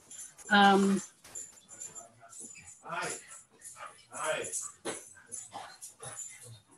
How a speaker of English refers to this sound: My dogs are barking because your dogs are barking. Yeah, the dogs are going crazy.